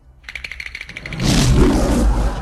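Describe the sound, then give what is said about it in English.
A brief run of quick rattling clicks gives way to a small lion cub's roar, a short, breathy, slightly raspy growl that swells and holds for about a second, alone. “when he came across the hyenas, his roar was just a very small roar that didn't really accomplish much.”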